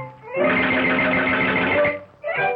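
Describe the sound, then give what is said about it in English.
Busy, loud cartoon-style music with a steady bouncing beat synced to Mickey Mouse walking on screen, in the 'Mickey Mousing' style of early Disney animation, playing for a couple of seconds before briefly dropping out and starting up again. “And we can even see, as we listen to this, we see Mickey walking.”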